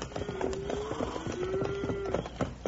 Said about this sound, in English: Bill, listen. Ain't that cattle I hear? It sure is, Jingles. You sure had it figured right, Wild Bill. Here they come. Let's stay back in these rocks and let them go on by.